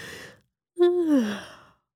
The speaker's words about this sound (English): smile was interrupted by a yawn.